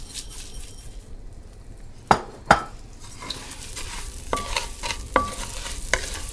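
Rice is stirred into one tablespoon of sizzling melted butter in a heavy stock pot, a Dutch oven, with a steady low frying hiss and a few sharp clinks and scrapes of a utensil against the pot's metal sides.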